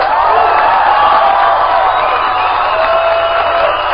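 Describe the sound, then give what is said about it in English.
A crowd of about 1,000 people in a large, packed room in Reno, Nevada cheers and whoops enthusiastically for Congressman Ron Paul, a loud, steady roar of many voices with scattered shouts and clapping running without a break throughout. “So for radio listeners, you can only hear the crowd.”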